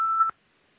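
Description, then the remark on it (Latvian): A parliamentary voting signal, rung before the vote on proposal 91, sounds as a single loud, steady electronic tone lasting a fraction of a second, then cuts off abruptly into near silence. “Lūdzu zvanu, balsosim par 91.”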